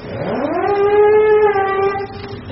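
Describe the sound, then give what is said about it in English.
A siren winds up from a low growl to a steady, loud wail with a strong harmonic tone, holding for about two seconds before easing off. No voices accompany it. “Can we use the siren so they don't seem to hear the human voice?”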